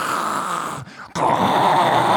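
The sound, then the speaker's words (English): A voice mimics a neighbor's diesel engine with a loud, gravelly, growling drone that breaks off briefly midway, then resumes just as rough and steady. “Another neighbor has a diesel engine.”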